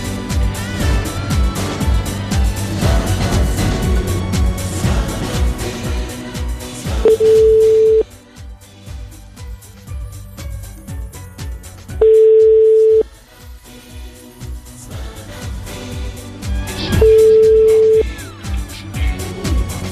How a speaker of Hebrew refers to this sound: טוב, בואו נפתח את השעה עם חיוג, ברשותכם. בואו נפתח את השעה עם חיוג. חיוג מאוד מעניין, אני חייב לומר לכם. חיוג מעניין בשידור חי. זה טלפון, בבקשה.